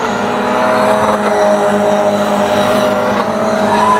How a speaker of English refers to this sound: Oh, wheeling it sideways. You hear the size of the wheels, you can hear the wheels screaming for sure.